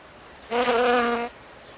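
A honeybee buzzes around a hive for under a second, a steady, reedy drone that swells in and cuts off against a quiet background, with no one talking.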